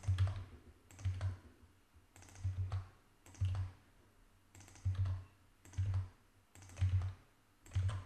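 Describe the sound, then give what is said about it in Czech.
A series of quick key presses on a computer keyboard, irregular bursts of soft clacking with brief pauses between groups, as a DreamSpark verification code is entered, with no one speaking. “Já už jeden takový kód mám, tak ho tady zadám.”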